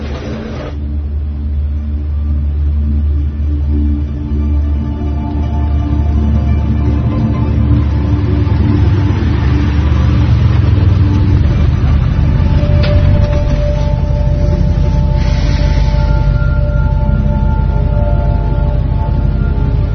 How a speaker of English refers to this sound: car coming in, sir?